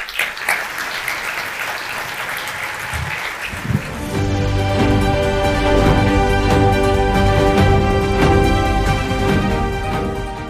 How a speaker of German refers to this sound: Und dann klatscht auch wieder mit dem Yes! Dankeschön.